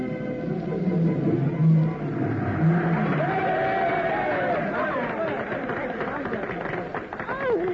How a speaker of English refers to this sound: And the crowd is certainly enthusiastic.